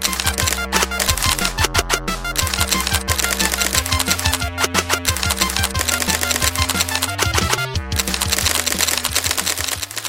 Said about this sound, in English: Next morning, wake up and look around, and over there in one of those teletypes, there's 20 or 30 feet of paper coming out of it, showing how somebody has snuck into my computer, used an account, found a hole in our operating system.